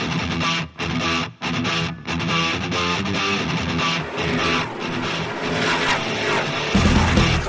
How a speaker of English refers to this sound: And Robbie Gordon is totally frustrated. You can hear the car missing. That's because he's got the floorboard. He's got the gas pedal down to the floorboard and the button keeping him from over revving.